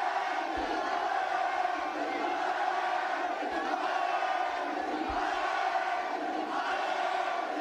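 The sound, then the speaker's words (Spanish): About 1,000 Atlético fans gathered at the team hotel sing the club anthem together in a loud, sustained roar, with cheering and shouting layered throughout and occasional low thumps underneath, while the players applaud them. “Primero cantando el himno, aquí aplaudían los jugadores del Atlético a la afición, muchos de ellos con cara de alucinamiento por lo que estaban viendo, y así seguían.”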